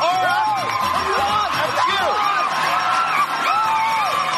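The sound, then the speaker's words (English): A woman on a TV game show screams and whoops excitedly, her high voice rising and falling over a loud, continuous cheering crowd, with no clear speech. “Yeah, still the same old screaming lady.”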